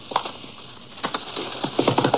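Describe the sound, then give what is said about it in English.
Riderless horses trotting up in response to a whistle, their hooves clopping in uneven bursts of sharp knocks that pick up toward the end, over a faint steady background hiss. No one speaks. “And in response to the whistle, the horses trotted up to him.”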